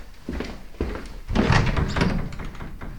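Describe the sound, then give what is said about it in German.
A door is handled as someone goes to it to call out: a couple of dull thuds and knocks, then a louder burst of creaking and rattling as it swings, with scuffing continuing afterward. “Großmutter geht zur Tür und ruft.”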